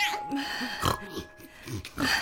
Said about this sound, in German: Aber jetzt grunzt doch nicht so. Das schickt sich nicht für kleine Jungen.